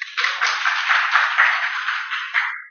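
An audience claps together in a steady, dense burst of applause that holds at an even level for a couple of seconds before stopping abruptly. No one is speaking.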